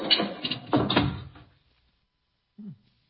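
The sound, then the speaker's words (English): A heavy, sticking door grinds and creaks on a rusty hinge for over a second as it is pushed shut beneath a cracking archway, then falls quiet before a single dull, low thud as it shuts. “Hurry, help me close the door before the archway falls on us.”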